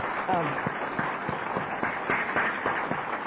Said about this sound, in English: You know, this committee out here has just done one hell of a job, and I think that we owe them a tremendous round of applause. I really do.